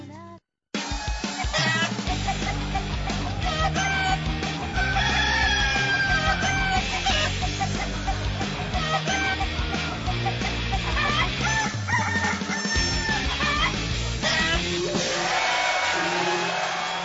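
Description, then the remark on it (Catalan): A loud, dense chorus of chickens clucking with roosters crowing over one another, continuous for the whole stretch, with no talking. “Pots regalar-los comprant-te una granja de gallines punquis.”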